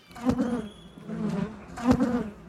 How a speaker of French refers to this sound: Magie de la radio, nous voici désormais en compagnie d'abeilles, des abeilles sauvages rares qui pourraient être les dernières descendantes de la population d'abeilles domestiques indigènes de Grande-Bretagne.